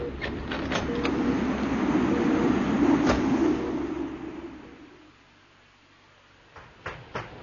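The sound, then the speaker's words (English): A door on an old vessel clicks open onto a walkway whose shielding broke down in a storm, letting in a loud, steady rush of wind that roars for several seconds, then dies away to near quiet, with a few sharp knocks and rattles near the end. “Now watch out for the blast when I open the door.”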